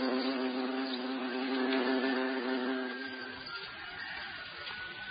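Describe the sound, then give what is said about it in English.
A hornet buzzes loudly and steadily in flight in a forest with a deep droning hum, then the tone breaks up and fades into scratchy rustling as it moves off. “But hornets are predators too. They hunt other insects and carry them back to their nest.”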